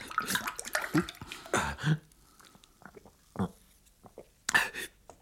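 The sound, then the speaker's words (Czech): Water splashes and trickles into a glass in short irregular bursts, fairly loud at first, then thinning to a few scattered drips and a final splash, as a little water is poured for someone to drink. “Prosím tě, nalej mi trochu vody, rychle vody.”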